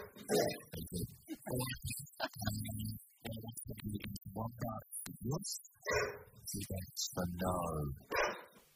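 A dog barks and whimpers, a run of short yaps and higher whining cries coming in quick, uneven bursts with brief pauses between them.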